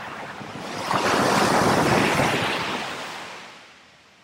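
Sea waves surge in, swelling to a broad roaring wash of surf that slowly recedes, with some wind buffeting the microphone; no voices.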